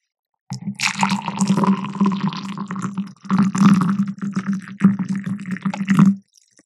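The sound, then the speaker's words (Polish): Hot tap water pours steadily into a glass for several seconds, a continuous gurgling, splashing stream with a brief pause midway before it resumes and then stops. “To była zimna, a teraz gorąca.”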